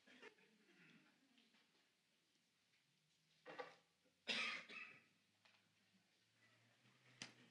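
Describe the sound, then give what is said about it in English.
The speaker at a church worship service coughs a few times in quick succession, sharp raspy bursts, followed by a softer single cough a moment later. “Please do that as I'm about ready to cough.”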